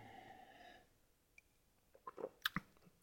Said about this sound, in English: All right, you guys. I brought you back just to make you listen to me take another sip of beer.